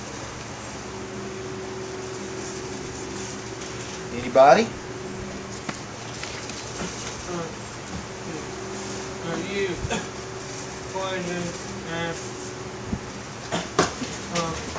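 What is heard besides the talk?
electric fan running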